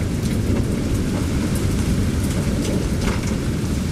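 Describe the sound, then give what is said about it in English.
Heavy rain pours down steadily in a summer thunderstorm cloudburst in the Twin Cities, in the US Midwest, a dense, loud wash of noise with a low rumbling undertone and scattered sharper drops, constant throughout with no voices. “Here's a little audio from a summer storm in the Twin Cities.”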